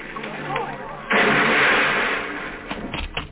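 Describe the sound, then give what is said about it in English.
A runaway car with failed brakes speeds down a steep driveway, its engine revving and roaring, kicking in abruptly with a loud, steady surge that stays strong, then eases and gives way to scattered clattering near the end. “Shields' car was going at a rapid clip down the steep driveway.”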